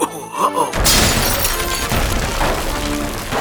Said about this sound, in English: Uh-oh. Man, the star knocked over the whole stable. What's happening? Everything fell over and now the electricity's out.